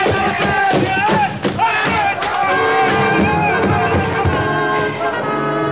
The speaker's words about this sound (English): As the crowd before the reviewing stand milled in hopeless confusion, the elephant of the bearded stranger reared, trumpeted, and crashed into the wooden structure.